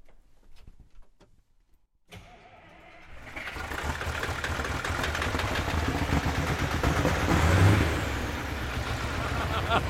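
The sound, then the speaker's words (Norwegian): After a couple of quiet seconds with faint clicks, a big V8 car engine fires up and settles into a loud, deep, rumbling idle, swelling briefly as it revs. “Diger V8-motor.”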